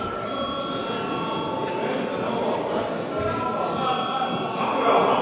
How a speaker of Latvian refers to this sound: Tātad lūdzu vēlreiz zvanu.